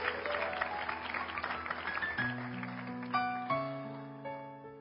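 A church audience claps together in a dense burst of applause to the Lord for about two seconds. The clapping then thins out as sustained keyboard or organ chords swell in and carry the rest.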